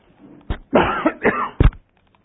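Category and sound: human body sound, coughing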